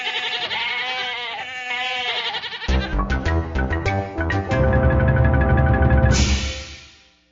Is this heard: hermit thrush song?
no